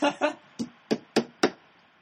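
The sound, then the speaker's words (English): Six sharp knocks of a salsa jar being rapped against a hard surface to loosen its lid, a quick pair followed by four spaced blows, fairly loud with a dull resonant thud to each. “This is live audio of me trying to loosen the lid using the old knock it on the”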